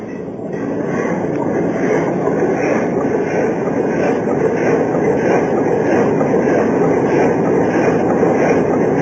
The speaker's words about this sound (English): Try the engine. There, Chief. Yes, sir. We'll try the engine. Ready, Chief? Yes, sir. Full steam astern.